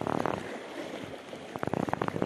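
Ocean waves wash in a steady, broad rushing hiss that fills the whole clip, with short voice-like bursts breaking through at the start and again toward the end.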